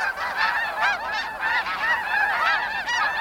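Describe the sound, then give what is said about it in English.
A flock of migrating geese honking continuously, many overlapping nasal calls rising and falling in a busy, steady chorus with no voices over it. “Geese migrate north between February and April, making stopovers along the way to rest and eat.”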